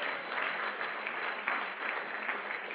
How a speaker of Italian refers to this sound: Ci crediamo, Chiesa? Amen. Facciamo un applauso allora al Signore se ci crediamo.